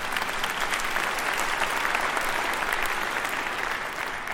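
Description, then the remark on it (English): An audience at a sermon breaks into steady, sustained applause, dense clapping at an even level for several seconds without pause. “So what he says, yes, you can go ahead and clap.”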